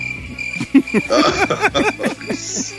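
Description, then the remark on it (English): A cricket chirping sound effect: a steady, high-pitched trill that keeps going unbroken through the short clip, fairly loud, with some other murmuring sounds mixed in around it. “Pulled out crickets for real.”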